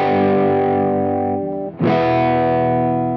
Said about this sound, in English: One of the most common is called harmonic distortion, which adds overtones to the original sound. These extra frequencies make the sound feel richer and more powerful.